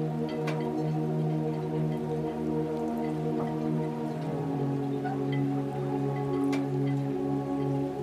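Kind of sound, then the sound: nature, water waves lapping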